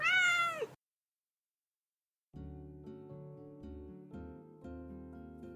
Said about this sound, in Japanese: ピッちゃん、お返事猫、ピッちゃん、あら、上手にお返事できる猫だね。ピッピッピピ猫、あ、怒ってんの、かわいいの